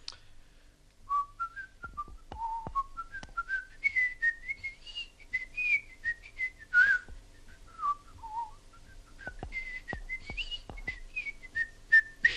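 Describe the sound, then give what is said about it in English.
A person whistles a lively, bouncing hornpipe melody, the notes rising and falling quickly with a steady dance rhythm, clear with faint background noise and occasional clicks. “And I started whistling them, you know, Boys of Blue Hill or something.”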